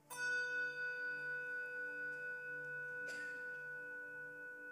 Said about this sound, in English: And so in one final act of honoring, I invite you to stand for anyone that you would like to honor who's passed away in the last year, and we'll toll the bell in their honor as well and observe a moment of silence.